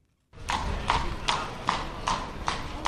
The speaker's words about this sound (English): A horse and carriage clatters through a square lined with orange trees. In the warm winter sun, a tour guide shows off the centrepiece of this beautiful and historic city.